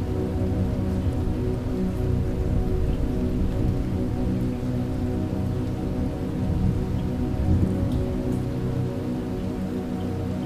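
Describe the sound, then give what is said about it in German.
Heavy rain pours steadily and evenly onto a lake at night for the whole stretch, loud, over a dense, low rumbling backdrop of a thunderstorm with lightning and thunder; no voices are present. “Jetzt fängt es auch an zu donnern.”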